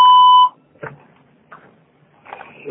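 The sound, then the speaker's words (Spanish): A single steady electronic voicemail beep tone on a Spanish-language answering system, signalling to leave a message, loud and clean, lasting about half a second, followed by quiet background with faint rustling and a brief rising tone at the end. “Usted puede dejar un mensaje después del tono.”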